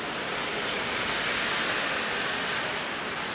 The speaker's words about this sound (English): oh my god, there's just so much rain. So I mean, I don't know, if this would just calm down a bit, I would still be willing to go in the rain, but I can't go outside in this. This shit's insane.